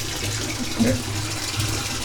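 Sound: hot water running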